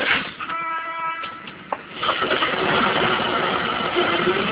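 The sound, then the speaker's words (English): A city bus engine starts up on a Sunday in New York, at the corner of 124th Street and Lenox Avenue: a brief whining tone, then the motor catches and settles into a steady, rumbling idle, fairly loud, with no talking. “And as the bus started up, the driver said...”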